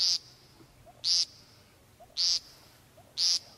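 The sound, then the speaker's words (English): Four short, nasal buzzing peent calls from a male American woodcock courting females, evenly spaced about a second apart, fairly loud over a quiet outdoor background with no talking. “They stake their claims early each April and begin to seduce females with a series of nasal, insect-like buzzing notes like these.”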